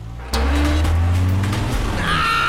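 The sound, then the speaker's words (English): A van racing out of a garage to deliver bread: its engine roars to life abruptly and revs hard as it speeds off, a loud low rumble with rising pitch, followed by a brief high tire squeal at the end. “Loaves, but as they race out of the garage...”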